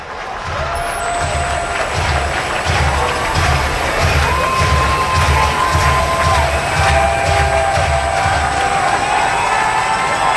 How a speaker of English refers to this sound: Opening night crowd here at Huntington Park on their feet trying to cheer the Clippers on to a victory.